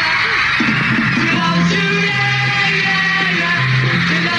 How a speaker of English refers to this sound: Oh, my God. Listen to that crowd.